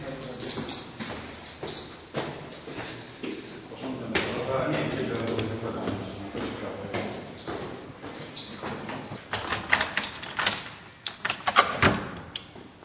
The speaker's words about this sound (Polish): Wchodzimy do mieszkania. Te drzwi są takie, jakie były 35 lat.